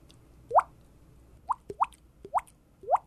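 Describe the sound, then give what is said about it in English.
A person imitates a dripping faucet with their mouth: five wet, rising plops spaced irregularly, a few with small clicks between them, clear with no talking. “That's the dripping faucet, of course.”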